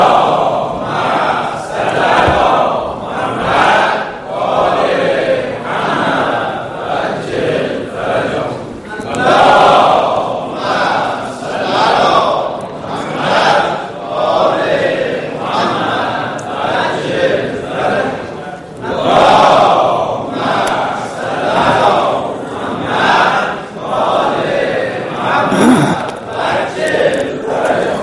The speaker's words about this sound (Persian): سه تا صلوات بفرستیم شما.